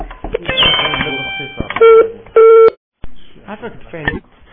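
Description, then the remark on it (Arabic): A telephone cut-off tone signalling that the call's maximum duration has been reached and the call is being ended: two loud, steady mid-pitched beeps, each lasting under half a second, break in after a voice speaking. A short silence follows before talking resumes. “Maximum duration of your call has been reached.”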